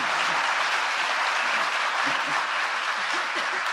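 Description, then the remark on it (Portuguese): A crowd applauds steadily at an award ceremony in Brazil, a dense, sustained wash of many hands clapping at once with no pauses, loud and even throughout. “E pode bater o um aplauso”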